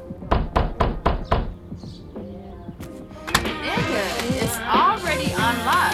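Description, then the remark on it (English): Four loud, rapid pounding knocks on a door land in quick succession, followed by shuffling and then a woman's raised, agitated voice talking over background noise. “Why you beating on the motherfucking door like you the police or something?”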